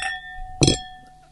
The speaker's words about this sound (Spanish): Vamos a hacerla sonar, me encanta el sonido del brindis con la copa. Acá.